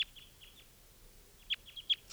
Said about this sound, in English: And the two wild birds are type 2s, and they're flying around here. I'm not able to catch them right now.